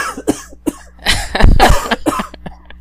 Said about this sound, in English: I even turned away and coughed.